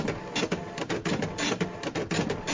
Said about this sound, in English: Okay, let me document this here real quick. Get some printouts.